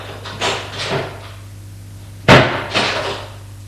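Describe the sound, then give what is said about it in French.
A bedroom door opens after a knock as a maid enters: soft swishing movements, then a sharp latch-like clack and another brushing swing, heard alone over a faint steady hum, with no voices. “Et l'on rentre.”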